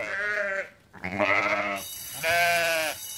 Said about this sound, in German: Und auch die anderen Schulschafe Maxi, Bella und Linda begrüßen Lilly mit kräftigem Geblöke.